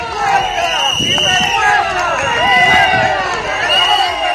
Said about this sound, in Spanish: Por contra, cuando ha salido el alcalde de la localidad, Fernando Delgado, concejal de Ciudadanos, por cierto, arropado por la cúpula del Partido Naranja en la provincia, se escuchaban abucheos y algún que otro insulto.